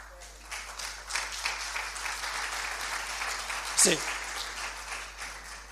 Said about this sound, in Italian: Oh, oggi mi piglio applausi ai punti ai quali avevo meno pensato.